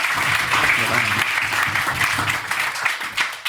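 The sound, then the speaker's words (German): Dense, sustained clapping from a crowd at the Stadtcafé in Bottrop for a local restaurateur. It is loud and steady with a bright hiss of many hands, while faint voices murmur underneath. “Einen fetten Applaus für den coolsten Gastronom hier in Bottrop.”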